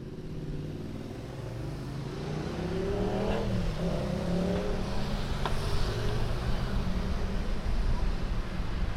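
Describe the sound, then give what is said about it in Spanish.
Street ambience at a tram stop in Tarongers at 2 p.m., as students arrive to take the tram home: a steady wash of traffic noise with a vehicle engine swelling and falling as it passes, plus a couple of brief sharp clicks and faint murmuring. “Son las 2 del mediodía en Tarongers y los alumnos y alumnas se acercan a la parada del tranvía para volver a casa.”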